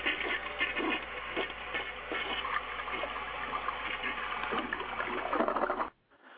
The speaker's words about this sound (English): Flush the toilet, give me my half point.